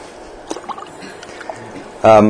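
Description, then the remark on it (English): Water trickles steadily into a glass for about two seconds as a speaker tops up his water, with a couple of faint clinks near the start, before a person starts talking loudly. “Reading about an illustration about topping my water up.”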